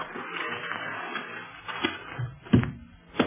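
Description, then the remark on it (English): A hidden entrance door beside an aircraft hangar closing: a low rumbling scrape builds, then ends in two solid clunks, the second a moment after the first. No one speaks. “Shall I close the hidden door after us, Master?”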